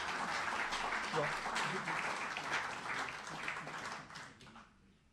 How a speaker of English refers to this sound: we'd like to give them a big round of applause, please. Thanks to Duke Travel.